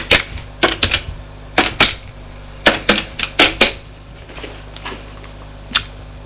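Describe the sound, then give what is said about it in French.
A man seated at his desk in a large room furnished as an office picks up the telephone and dials a number: a dozen or so sharp, crisp button clicks in quick irregular bursts, with a few fainter presses trailing off at the end. No voices. “Prend le téléphone et fait un numéro.”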